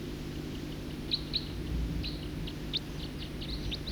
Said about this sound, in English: song of the first bird. Song of the first bird.